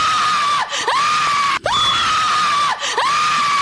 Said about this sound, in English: How about a woman screaming hysterically?